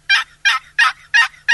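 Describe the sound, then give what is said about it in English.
Five loud, raspy turkey yelps scraped out on a wooden box call, evenly spaced in a steady rhythm, clear with no talking. “If you can just learn the basic yelp and something as easy to use as a box call, you can call turkeys during the mating season.”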